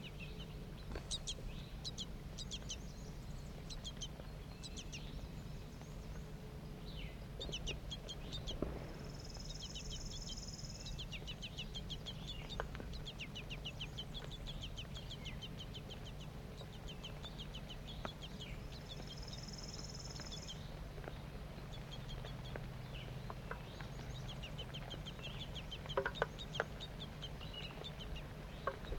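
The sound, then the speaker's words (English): Two juvenile and two adult birds call continuously while feeding, a busy chorus of short, high-pitched chirps and squeaks, with two brief sustained whistling notes standing out above a steady low background hum. “Two juvenile birds and two adults. Stop. Start recording. Feeding's now occurring.”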